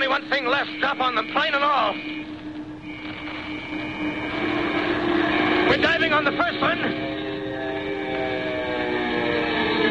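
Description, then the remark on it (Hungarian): Loud, sustained engine roar of diving bomber planes, with whining tones that rise and fall in pitch, building again midway and holding steady to the end. “Megpróbálnak rájuk zuhanni.”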